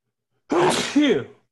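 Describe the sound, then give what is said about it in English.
A single loud sneeze with a two-part burst, a sharp breathy onset followed by a voiced explosive release, lasting under a second with silence around it. “Bless you.”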